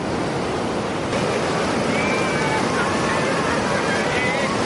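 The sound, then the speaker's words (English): Gentle, mild ocean waves suited to beginner surfers wash steadily against the shore during a surfing lesson for dogs, a continuous soft surf roar that stays even and fairly loud throughout, with faint voices drifting in the background. “The ocean greets new surfers with very mild waves, perfect for beginners.”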